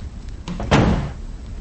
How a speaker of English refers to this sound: She gives a satisfied nod, then closes the door behind her.